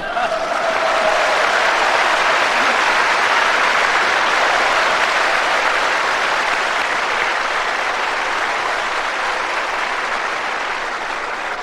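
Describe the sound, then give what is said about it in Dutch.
Sustained audience applause, a dense steady patter of many hands clapping at a fairly even loudness for about twelve seconds, tapering slightly toward the end. No one speaks. “Ik dacht aan uw reactie en applaus te horen dat dit echt geen vertaling vraagt.”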